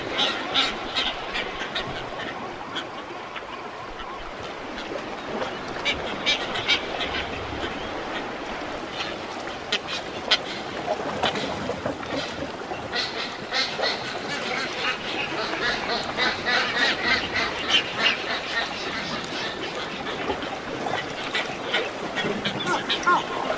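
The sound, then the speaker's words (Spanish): A dense, continuous chorus of many booby seabirds calling at once, honking and quacking cries overlapping steadily with no pauses, from a large breeding colony on San Pedro Mártir Island in the Gulf of California, Mexico. “Ubicada en el Golfo de California, esta isla es hogar de cientos de aves marinas que encuentran refugio para reproducirse, incluyendo las colonias más grandes del mundo de pájaros bobos patas cafés y de bobos patas azules.”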